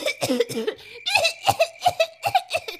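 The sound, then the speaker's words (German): A rapid, sputtering fit of choking coughs, about ten harsh voiced bursts in quick succession, fairly loud, sounding like a performer acting out a witch gagging and coughing after a handful of gingerbread is stuffed into her mouth. “Die Hexe hatte sich in der Tat böse verschluckt. Sie hustete, bis ihr Gesicht ganz rot wurde und schließlich sank sie erschöpft zu Boden.”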